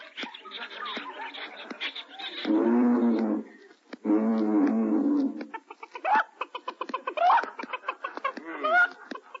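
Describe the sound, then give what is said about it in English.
Animals growl and call at the Central Park Zoo: two long, loud roaring growls in the middle, with shorter squawks, chatter and clucking calls before and after. “And now I'll tune you into the Central Park Zoo where we find the rest of our gang.”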